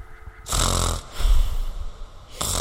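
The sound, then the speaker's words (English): A voice imitates the deep, heavy sleeping snore of a man who suddenly fell asleep: two long rasping inhales with rough low rumbles, a brief pause between them, and another snore starting at the end, fairly loud. “Like deep snore, like deep sleeping snore.”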